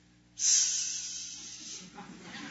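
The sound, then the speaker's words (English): A person imitates a snake with one long, sharp hiss that bursts in loudly and slowly fades over about a second and a half, followed by faint voice sounds. “I can hear the hiss, can't you?”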